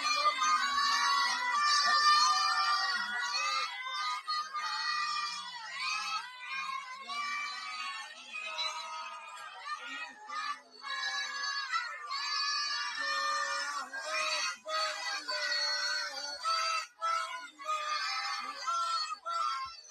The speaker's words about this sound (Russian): Главное развлечение – отрубание головы картонному ягненку и распыление красной жидкости из его шеи, пока возбужденные дети выкрикивают «Аллаху Акбар». Посмотрим это прекрасное видео.